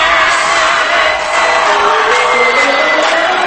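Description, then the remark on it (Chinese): A large crowd screams and cheers continuously, a loud, dense wall of voices with whoops rising out of it, sustained without a break for the whole stretch, answering a call to scream at a DJ remix party. “Thank you， 尖叫一声。”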